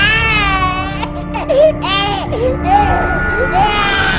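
A baby cries loudly, wailing in repeated rising and falling bursts with short gasping breaks between them, continuing without pause for several seconds.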